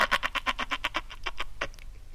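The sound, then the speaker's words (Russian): A frog croaks once in autumn in one rapid rattling burst of about a dozen quick pulses that slow and fade toward the end, fairly loud, with no voices. “Она уж никак не могла удержаться, чтобы не квакнуть хоть разик.”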